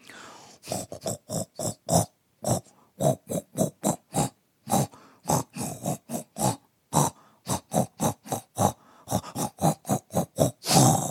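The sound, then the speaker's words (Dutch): A mother pig grunts over and over at her piglet in a steady, rapid series of short, fairly loud bursts with brief gaps between them, recorded on a phone, and no one speaks. “Ze knorden tegen elkaar en Inge nam het gauw op met haar telefoon. Moeder varken deed dit.”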